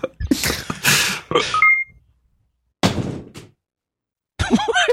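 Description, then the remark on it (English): A phone clatters off a desk in a burst of loud thunks and rattles with a couple of short electronic beeps, then after a pause another thud and a final scraping clatter. “Could have my phone falling off a desk.”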